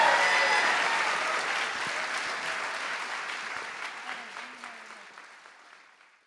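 Steady audience applause from a sizable crowd, dense and loud at first, then gradually thinning and fading out over about six seconds.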